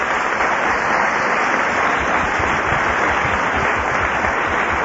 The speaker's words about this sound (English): Thank you for coming this evening. Let's give an applause for her.